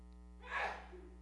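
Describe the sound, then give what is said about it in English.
A female sneezes once quickly over a faint steady electrical hum, a sharp airy blast that fades within a moment, with no talking around it. “She inherited my sneeze.”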